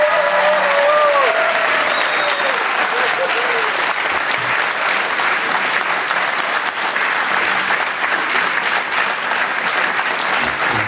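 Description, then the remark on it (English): Sustained audience applause at the Commonwealth Club as Greg Gutfeld is welcomed, a dense, steady wash of clapping that holds at an even loudness for about eleven seconds, with a few faint cheers or whoops rising briefly near the start. “First off, I better get more applause than Tucker Carlson.”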